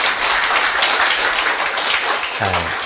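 A church audience applauds steadily for a young drummer, with dense, continuous clapping for the whole stretch, and a brief voice rising over it near the end.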